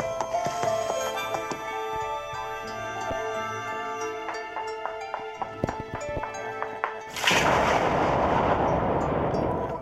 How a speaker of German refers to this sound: Es hat Rhythmen, Melodien, Stimmen, Geräusche, Sirenen, der Knall von einer Pistole. Und mit diesen Klängen kann man dann eigene Klangbilder zeichnen.